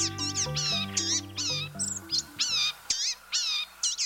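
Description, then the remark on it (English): A series of thin, nasal, mewing calls of a blue-gray gnatcatcher, a slim 4.5-inch bird, about eight in quick succession, clear, over soft background music that fades out partway through. “Blue-gray gnatcatchers are little birds that can be hard to spot as they forage busily amid dense leaves overhead.”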